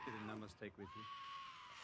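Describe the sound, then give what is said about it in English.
Giant goats from Norse mythology, named Tooth Gnasher and Teeth Grinder, screech loudly in a film scene: a quick run of harsh, wavering bleats, then one long, thin, high-pitched cry that holds steady before fading out. “Screechy, screechy goats.”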